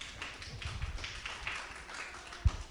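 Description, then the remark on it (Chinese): A church audience claps to welcome a speaker, a steady, even patter of applause that holds at a moderate level throughout, with a single low thump near the end. “掌声欢迎。”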